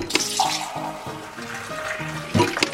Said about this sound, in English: The term soda jerk comes from a fountain server needing to pull, or jerk, a small lever in order to pour the soda.